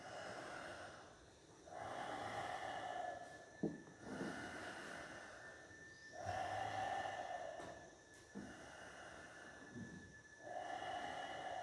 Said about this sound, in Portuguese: Terceira marcha. É a marcha muito importante da respiração circular. O que acontece quando você inspira, expira, sem pausas? Assim.